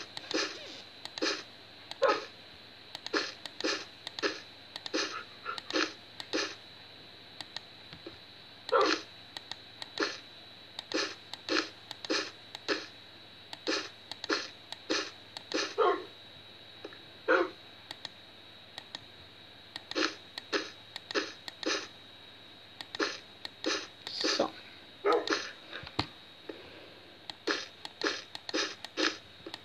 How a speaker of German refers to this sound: Hört auf zu bellen. Ihr treibt mich noch dem Wahnsinn entlang.